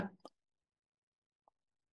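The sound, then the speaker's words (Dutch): A quick sip of water: a short wet slurp at the start, then silence and one small, soft gulp-like plop about a second later. “Ik moet even een slokje water nemen.”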